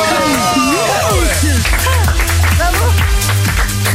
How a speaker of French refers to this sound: Et on s'applaudit.